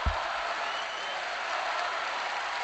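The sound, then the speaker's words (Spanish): Sustained applause from a large crowd of Mallorca football supporters, about 4,000 to 5,000 people gathered on the tracks and pitch facing the stadium's directors' box, a dense steady wash of clapping filling a stadium with no break throughout. “Esos aplausos que escuchas son los seguidores del Mallorca que están congregados a la altura mirando al palco, pero desde abajo, desde las pistas y ocupando buena parte del terreno de juego.”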